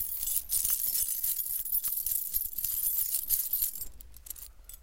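A heap of coins in a treasure chest jingles and clinks continuously, bright metallic chinks spilling over one another, with a few louder rattles near the end and no voices.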